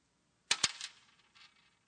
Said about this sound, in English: The woman dropped in 2 coins.